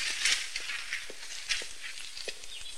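A burst of papers flutters and rustles through the air, a steady papery hiss broken by scattered soft taps and light footsteps, with no one speaking.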